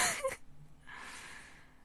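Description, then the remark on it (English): A sharp, breathy gasp opens with a quick burst of air, followed after a short pause by a longer, softer exhale of airy breath. No one speaks. “Oh, you gasped.”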